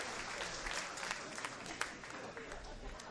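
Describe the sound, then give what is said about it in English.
A crowd applauds steadily for a few seconds, a dense, even patter of many hands clapping at once with a few sharper claps standing out, fairly soft overall. “Everyone stand to your feet. Man claps.”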